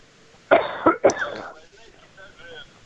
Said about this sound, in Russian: Кашель, слышу, спасибо